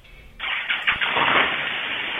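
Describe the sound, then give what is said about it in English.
A man gets into his car and its engine cranks and catches, then settles into a steady running rumble, sounding thin and band-limited as if heard through a telephone line. “Oh, shit, he's getting in his car.”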